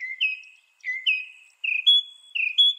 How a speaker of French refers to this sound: Selon un article récent publié dans la revue Frontiers in Psychology, l'oiseau moqueur suit en effet des règles musicales similaires à celles que respectent les grands artistes de la chanson.